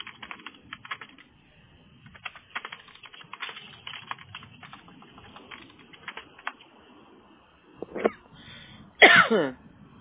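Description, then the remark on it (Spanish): Soft, scattered keyboard typing fills the first seconds, then a person coughs from asthma: one short cough, and a second louder, harsher coughing burst near the end. “Disculpe, es porque empieza mi asma y, ay, Dios mío, empiezo con la tos.”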